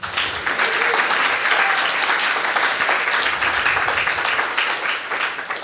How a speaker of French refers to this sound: Directrice générale d'Amnesty International, Canada francophone. On applaudit.